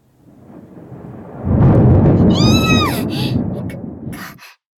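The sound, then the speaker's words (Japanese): A deep, rolling rumble of thunder builds to a loud, sustained roar and fades out after a few seconds, with a brief high-pitched wavering cry rising over it partway through. “雷、やだ、雷苦手なのに。”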